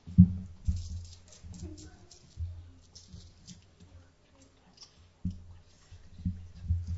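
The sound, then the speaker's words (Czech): Coins being handled and counted at a camp: scattered soft clicks and light taps come in irregular bursts over dull, low thumps of movement, with no talking. “Má za úkol spočítat si mince.”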